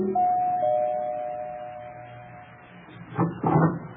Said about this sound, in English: Around about 8 o'clock, after I'd taken care of dividing the reward, I steered for 975 Park Avenue, made it with no trouble, and rang the bell to Helen's apartment.